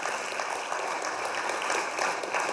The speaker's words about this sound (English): Thank you guys so much for being with us. And while you're clapping, I'd love for you to keep clapping for another organization as they make their way. Friends of Refugees here in Clarkson, you guys cheer for